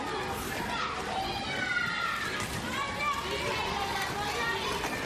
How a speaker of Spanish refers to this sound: Esto que estás escuchando es como suele sonar habitualmente un patio de colegio cualquier día a esta hora de la tarde. Es el sonido de los niños jugando en la hora del recreo.